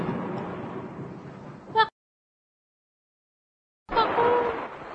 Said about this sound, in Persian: آسمون ابری ابری بود و یه دفعه رعد و برقی زد و بارونی شروع شد.